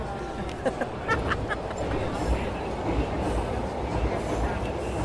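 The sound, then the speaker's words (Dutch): A dense, steady rumble of a metro train passing overhead, which happens every two minutes, low and continuous with faint rattling clicks, while indistinct crowd murmur sits underneath. “Om de twee minuten dendert de metro over ons hoofd.”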